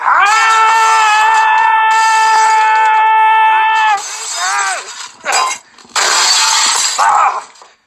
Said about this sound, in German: Okay, dann ich trete hier alles kaputt im Studio und wir schreien, okay? Auf drei. Okay. Eins, zwei, drei.